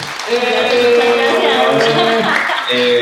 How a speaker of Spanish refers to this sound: Así que aquí se ponen los aplausos.